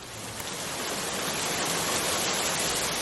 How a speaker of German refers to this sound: Strömender Regen. Wir dachten echt, das ist doch jetzt hier ein schlechter Scherz.